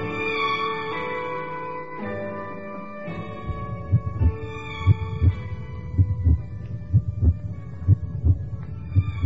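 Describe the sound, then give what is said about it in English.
A steady, thudding heartbeat, picked up by an audio sensor lowered into a drilled hole, emerges partway through, pulsing in a regular rhythm over a sustained, eerie humming drone that fills the opening seconds alone. No one speaks. “The heartbeats are very distinct.”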